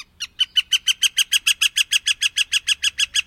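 A northern flicker calls in a fast, steady run of about twenty loud, sharp notes, evenly spaced, with no talking.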